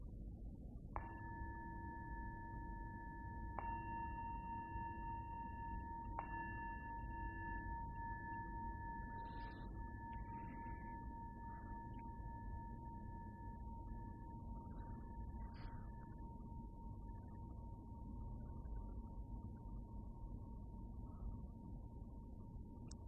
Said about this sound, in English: And as the sound of the bell fades, just really come into your body, just as it is right now.